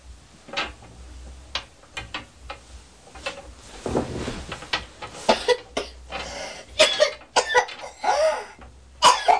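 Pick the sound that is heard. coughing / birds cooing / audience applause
coughing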